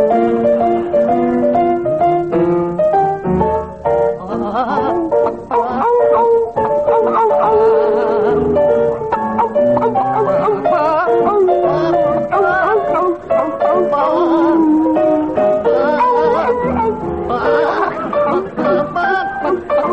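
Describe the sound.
John Cleese and Graham Garden sing an old tune entirely in animal noises, one voice howling and barking like a dog, another clucking like a chicken. It is loud and continuous for the whole stretch, with no ordinary speech.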